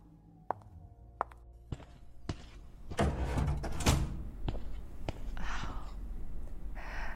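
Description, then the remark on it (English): A few spaced footsteps tap across a hard floor, then an old history classroom door swings open with a loud, scraping creak and rattle, followed by more movement and soft shuffling as someone steps into the classroom. “the door's unlocked.”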